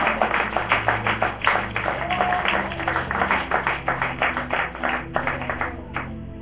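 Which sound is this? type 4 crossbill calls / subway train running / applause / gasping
applause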